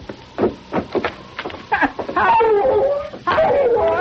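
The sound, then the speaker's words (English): A bloodhound named Misery barks a welcome at a two-room cabin shack east of Windfall, giving a few sharp barks in a loose rhythm, then breaking into long, wavering whines and yelps that slide downward in pitch, fairly loud and alone. “Approaching the two-room shack that was a temporary home, he heard Misery barking a welcome.”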